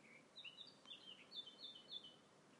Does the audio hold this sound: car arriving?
no